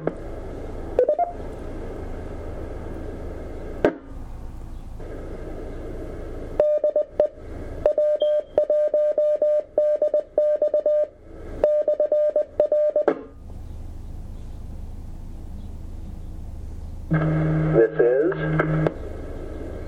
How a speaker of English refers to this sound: Okay, anybody else want to check in, or whoever made the beep, if they are trying to get our attention, please come now with your call sign.